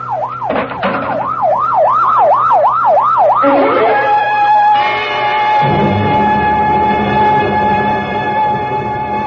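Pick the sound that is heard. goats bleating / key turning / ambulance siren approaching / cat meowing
ambulance siren approaching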